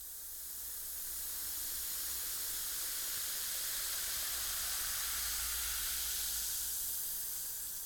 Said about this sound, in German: Für das Prasseln nehmen wir ein Glas Wasser, halten unser Mikrofon oder Aufnahmegerät darüber und bröseln dann langsam Brausepulver in das Glas.